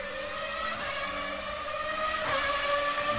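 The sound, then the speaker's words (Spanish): A high-pitched race car engine drones steadily and loudly, its whining tone climbing slightly toward the end as it revs, with no voices. “Sentí la adrenalina del automovilismo en Radio Provincia. Motores 1270.”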